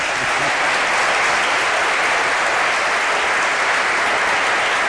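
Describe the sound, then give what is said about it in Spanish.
An audience in Mieres applauds steadily for about five seconds for a guest who has won a prize, a dense, even wash of many hands clapping at once with no pauses and no voices over it. “Os pido un aplauso para él, ha ganado un premio.”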